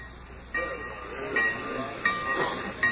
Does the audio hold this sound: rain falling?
no